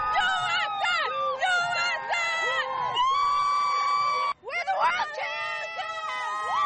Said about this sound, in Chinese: 美国女足队的23名成员分别坐上4辆游行坐车，所到之处都受到民众夹道欢呼，其中有很多民众是热爱足球的女孩子。